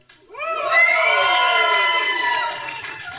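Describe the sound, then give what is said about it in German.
A concert audience at Radiokonzert bursts into a loud, sustained cheer of shouts and whoops on a count of three, rising quickly after a short pause, holding steady for a few seconds, then tapering slightly. “Lass mal kurz den Raum hier sprengen bei drei.”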